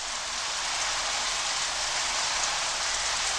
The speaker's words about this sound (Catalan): El déu Inti, compadit, va ajuntar uns núvols i va fer ploure.